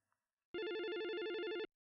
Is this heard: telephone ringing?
yes